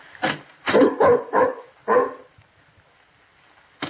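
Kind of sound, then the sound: animal, dog barking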